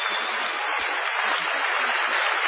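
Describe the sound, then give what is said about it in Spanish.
A theatre audience at the Teatro Municipal in Bahía Blanca gives an ovation to greet Patricio Barton, a dense, even wash of clapping with no pauses, holding at a constant loud level for the whole stretch. No voices are heard. “Vamos a saludar inmediatamente con una cerrada ovación a Patricio Barton.”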